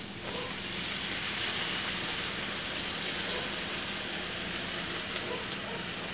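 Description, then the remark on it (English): About 1.5 cups of vegetable stock poured into a hot pan over medium heat sizzles and bubbles vigorously as a sauce, a steady, loud, hissing roar that holds constant throughout with no voices. “So you can see that it's bubbling, it's boiling, that's good.”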